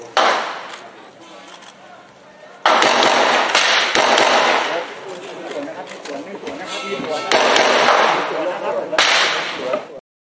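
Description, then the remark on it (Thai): Rapid gunfire cracks out in a long, loud volley of some 20 to 30 sharp shots, some bunched in quick bursts, over a noisy background with indistinct voices, during a police incident involving a police inspector that ended around noon. “นี่ฮะเสียงปืนดังสนั่นหวั่นไหวเลยครับเป็น 20-30 นัดเลยนะครับ”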